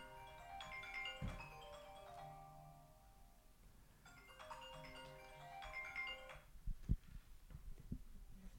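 signal or alarm, phone ringtone

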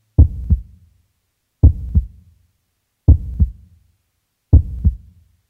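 human body sound, heartbeat

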